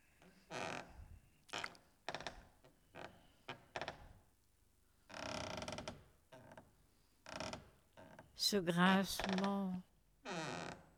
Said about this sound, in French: Ce grincement de la rampe là contre les marches d'escalier.